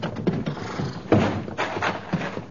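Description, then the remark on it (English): A horse's hooves gallop in a run of loud, uneven thudding beats over a dusty, noisy background, with no voices. A lone rider in Bedouin robes is galloping up to the Café Bal Oriental at the foot of the Street of Thieves. “But a lone rider, his Bedouin robes flying, disregarded the surah as he galloped up to the real heart of the city, the Café Bal Oriental, standing in solitary splendor at the foot of the Street of Thieves.”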